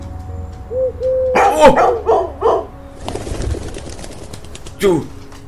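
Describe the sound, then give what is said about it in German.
A dog barks in a quick burst of several loud barks, then falls quiet before one more bark near the end, with a softly cooing pigeon just before. “Hört alle her, der Hund hat mich gerettet, ruft”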